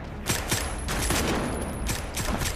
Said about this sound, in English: Frank quickens his pace. He shoots. Baxter shoots from behind torn plastic curtains and retreats.